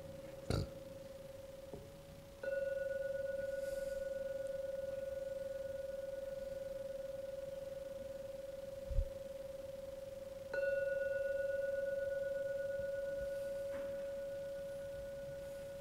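A meditation gong is struck three times to end a meditation session, the first a brief tap, then two full strikes whose steady mid-pitched hum rings on and slowly fades for several seconds. No one speaks.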